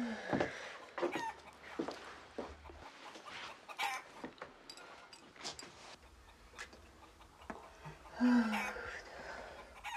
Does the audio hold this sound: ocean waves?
no